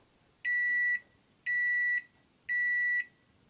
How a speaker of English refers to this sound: Almost all of us can recognize that sound. Those 3 little beeps pierce your eardrums to let you know that, hey, your burrito's finished.